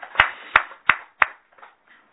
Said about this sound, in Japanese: 盛大な拍手でお祝いをしてあげてください